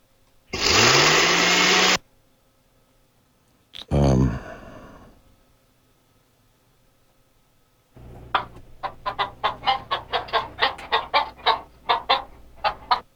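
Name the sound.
kitchen blender running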